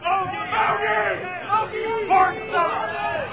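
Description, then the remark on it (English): An audience screams and shouts all at once, a dense, steady mass of overlapping voices with rising and falling cries that never drop to silence. “What are you guys screaming about?”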